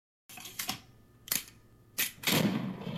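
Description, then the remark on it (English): Sharp gunshot-like cracks go off one at a time at uneven intervals, and the last is followed by a rough, sustained noisy burst. No one speaks. The sound portrays the gunshot that kills Father James Coyle on a porch. “And then a gunshot.”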